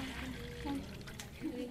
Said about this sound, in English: Would you be so kind as to fill this 1-litre bucket up with water?